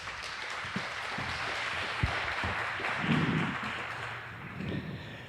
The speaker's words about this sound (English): welcome with a very warm round of applause